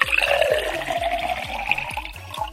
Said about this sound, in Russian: В теремок он залезает. Снова рюмку наливает.